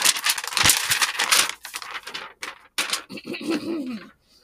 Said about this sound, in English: Okay, now let me aggressively flip over this paper to make a lot of noise and sound like I'm actually doing something.